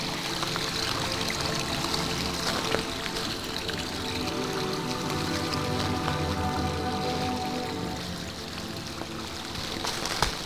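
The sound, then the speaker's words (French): A small brook trickles and babbles steadily in a mountain forest as someone walks alongside it, a continuous gentle rush of slowly flowing water with soft splashes and no voices. “On longe un petit ruisselet.”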